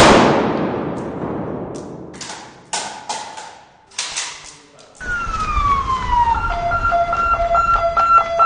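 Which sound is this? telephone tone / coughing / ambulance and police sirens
ambulance and police sirens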